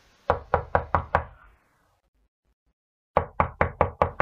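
Knocking on a door: a quick series of five sharp, solid raps, a pause of about a second and a half, then another run of six evenly paced knocks. No voices.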